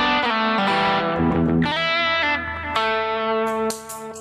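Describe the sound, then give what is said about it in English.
A loud electric guitar through heavy distortion, switched on for a solo, plays a short phrase of thick, sustained notes that shift pitch a few times, with no voices. “It's like you just do a preparation, and then when you get to the solo, then, you know, you add your, you change distortion.”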